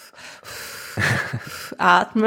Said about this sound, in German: Atmen.